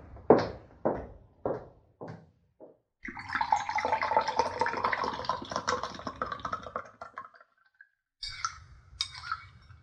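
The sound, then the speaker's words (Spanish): A few sharp knocks and clinks, then water poured steadily into a container for several seconds to make pineapple water, a full splashing rush that tapers off, followed by quieter handling sounds. “Ay, ahora mientras llegan con las tortillas dos muchachos, voy a preparar el agua de piña.”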